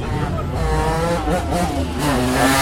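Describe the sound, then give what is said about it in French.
A powerful BMW M3 convertible engine of about 400 horsepower revs loudly as the car drives past, its pitch climbing and falling in a throaty roar that fills the whole moment before surging again toward the end. “En M3, ça c'est un M3, donc c'est du BAMO 400 chevaux quoi, un cabriolet, c'est magnifique, ça vaut un pognon, pas possible, donc bah voilà quoi.”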